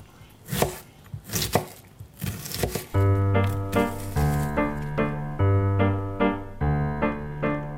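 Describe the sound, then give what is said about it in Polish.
Sharp, crunchy knife chops on a board, about six or seven in an uneven rhythm, chopping cabbage; after a few seconds the chopping stops and a steady tune of sustained musical notes takes over. “Dlaczego nie siekasz już kapusty?”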